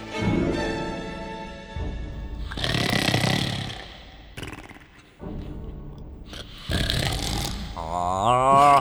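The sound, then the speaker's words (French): A person snores loudly, with several drawn-out rasping snorts alternating with noisy, breathy stretches, the last one rising into a wavering, throaty rattle. “Putain, mais c'est toi qui ronflais alors!”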